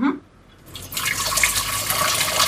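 Water just boiled in an electric kettle pours steadily into a large pot, a bright continuous splashing rush that starts after a brief quiet moment and keeps flowing at an even level.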